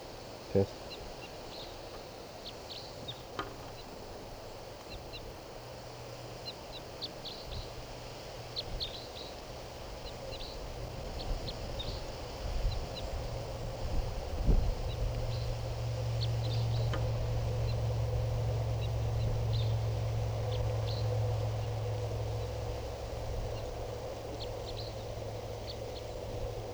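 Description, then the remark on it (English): Faint, sharp chip calls of a wild type 3 crossbill repeat irregularly throughout, high-pitched and brief, over a steady low rumble of background noise. “I think I hear a type 3 bird.”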